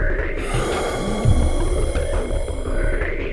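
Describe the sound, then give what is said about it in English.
A long, raspy gasp from a man, breathy and strained, holding steady for a few seconds with no speech around it. “A haunting gasp escaped Joe's mouth.”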